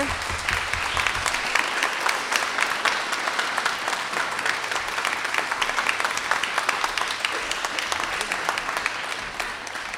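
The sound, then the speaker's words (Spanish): Sustained audience applause fills the whole ten seconds, a dense, steady wash of many hands clapping at an even loudness with no voices on top, welcoming guest composer Gabriel Valverde to the stage at a Debussy tribute. “Y uno de ellos es Gabriel Valverde, a quien nos gustaría invitar, ya que está en el público, a que se acerque a esto con a gran aplauso de nuestra parte.”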